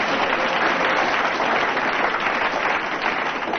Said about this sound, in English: I thought you'd have got more applause from the audience, but... The audience is the entire membership of the STP.